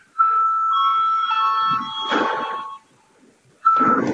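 The session bell of the Saeima, the Latvian parliament, rung at the chair's request before a vote, rings with a steady, high-pitched electric buzz for over two seconds, falls silent briefly, then sounds again, with a low rustle of movement beneath it.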